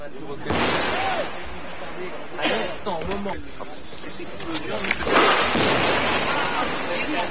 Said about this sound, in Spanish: Hace tan solo unos minutos se han escuchado en la zona al menos 3 explosiones. Este era el momento.